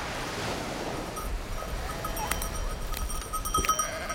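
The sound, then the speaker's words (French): Ewes bleat faintly over a steady wash of wind and surf at Cap Blanc-Nez in the Pas-de-Calais, France, facing the English Channel, a couple of thin calls rising briefly near the end of an open coastal scene. “Face à la Manche et à son défilé de ferries et de tankers, des brebis se confondent avec la craie du Cap.”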